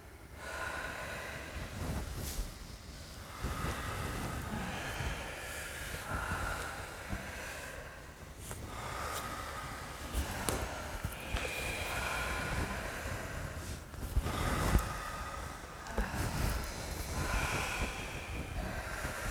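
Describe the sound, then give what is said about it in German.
Several people breathe heavily together in a steady rhythm during a guided group breathing exercise, loud rushing inhales and exhales repeating about every two seconds, breathy, with no talking. “Und atmet ganz frei.”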